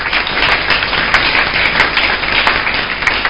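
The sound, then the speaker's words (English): An audience claps together for a man who has just explained how the heart pumps blood, in a dense, steady burst of applause, loud and sustained across the whole moment with many overlapping hand claps and no voices standing out. “Let's clap for him.”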